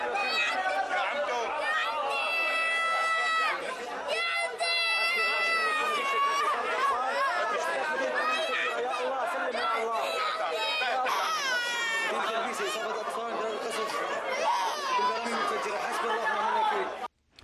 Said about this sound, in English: And then the gut-wrenching sound of a young child being treated in a hospital, followed by the sound of a small infant with an injured foot.